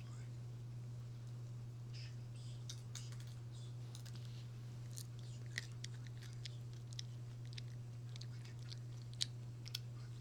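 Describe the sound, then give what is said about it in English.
Quiet chewing of dried catnip, a kind rolled around in the mouth for a bit and then chewed up and swallowed: a steady run of small, irregular moist clicks and crunches over a constant low electrical hum, with no talking. “This is a kind that you roll it on down for a bit, and then chew up and swallow.”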